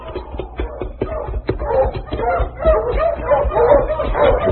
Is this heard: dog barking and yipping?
yes